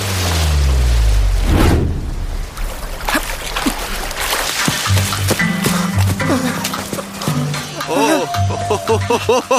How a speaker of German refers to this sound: Nate fiel ins Wasser und die Maschine raste aufs Ufer zu und donnerte gegen einen Baum.